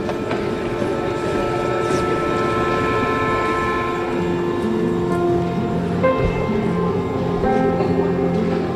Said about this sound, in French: The next train to arrive on the outbound platform is for YVR Airport.